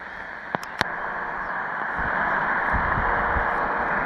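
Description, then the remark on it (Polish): An X06 shortwave radio receiver used outdoors, tuned to 4625, hisses with steady static, two sharp clicks early on, then faint low buzzing pulses surfacing through the noise as the station comes in. No one speaks. “A sprawdźmy dla testu 4625.”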